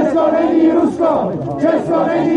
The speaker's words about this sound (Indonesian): Pasca pengusiran tersebut, puluhan demonstran berkumpul di luar kedutaan Rusia di Prague pada Minggu. Mereka menyerukan Uni Eropa agar mendukung Republik Ceko.